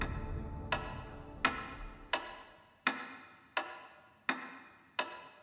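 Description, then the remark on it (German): A simple pendulum wall clock ticks steadily, about seven evenly spaced sharp clicks with brief ringing decays, clear with no voices present. “Ein einfaches Pendel, wie man es in jeder Wanduhr findet. Es bewegt sich gleichmäßig, berechenbar, vorhersagbar.”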